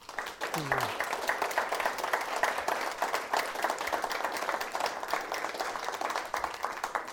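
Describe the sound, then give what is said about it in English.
A crowd applauds steadily for people in recovery, dense overlapping claps sustained at an even loudness for several seconds, with a brief voice cutting in near the start. “Everyone here that's in recovery, give them a round of applause.”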